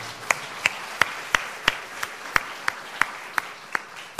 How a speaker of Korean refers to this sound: 네, 할렐루야. 주님께 박수를 올려드리시길 바랍니다.